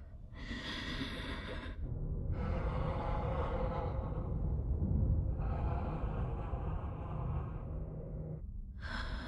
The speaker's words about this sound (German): setzt den Helm auf, sie atmet schwer.